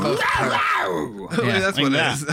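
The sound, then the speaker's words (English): A person imitates a cougar's growl, a loud, drawn-out rasping snarl that rises and falls over about two seconds with a brief break in the middle. “That's a cougar does that.”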